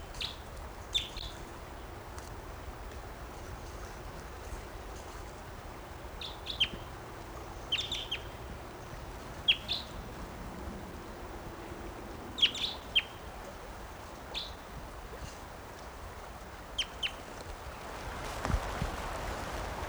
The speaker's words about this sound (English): Here's that bird again. Wild. Stop. I'm recording that bird.